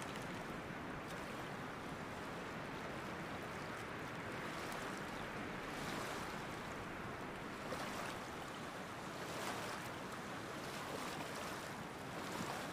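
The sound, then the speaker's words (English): Water laps steadily against a loch shore, a continuous wash with gentle swells every few seconds, fairly loud, with a soft breath of wind beneath it. “Still, the lapping water of the loch was ever present.”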